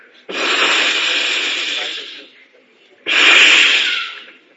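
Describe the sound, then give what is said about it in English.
A voice makes two long, loud hissing sounds in imitation of snakes, the first lasting about two seconds, then a short pause before a second, slightly shorter hiss. “What's that? So many snakes trying to bite him.”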